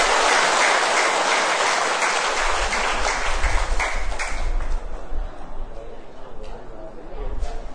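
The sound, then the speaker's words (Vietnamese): A crowd applauds the benefactors of a program loudly and steadily, a dense wash of many hands clapping that fills the space for several seconds before thinning slightly toward the end. “Hãy dành một tràng vỗ tay thật lớn để chúng ta làm quen nhau.”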